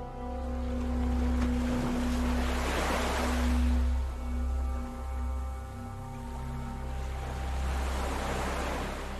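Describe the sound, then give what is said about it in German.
Waves of the Red Sea wash in and out in slow, rolling surges, moderately loud, over a steady low rumble like an engine. No one speaks. “Nimm den belebenden Geruch des Roten Meeres in dir auf.”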